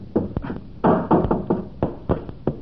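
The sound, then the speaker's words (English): Hammering at a weak, rotten spot low on a wooden door frame, a string of about nine solid, hollow-sounding blows at an uneven pace, fairly loud, with no voices. “I only had something to hammer at the weak spot with.”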